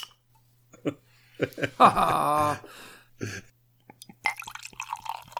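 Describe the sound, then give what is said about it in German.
A bottle of beer from the Flensburger brewery pops open with a few sharp clicks and a squeaky, hollow release, then after a brief pause a steady fizzing, foaming hiss rises. “Das schäumt hier sehr stark. Hier kommt ein Soundeffekt. Plopp.”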